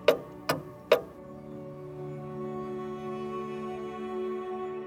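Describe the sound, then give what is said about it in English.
Three crisp wooden clock ticks from a collection of hand-carved wooden clocks land in quick succession, then give way to a steady, resonant ringing tone that hangs evenly until the end. “A vast collection of hand-carved, impossibly detailed, seemingly priceless wooden clocks rests around you.”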